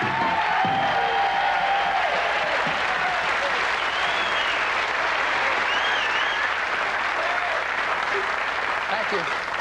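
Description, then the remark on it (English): Loud, sustained applause from a large TV game show studio audience greeting the host fills the whole stretch, a dense steady clatter of clapping with faint whoops and cheers rising above it. “How anyone can get such applause and still stay as nice as me, I don't know.”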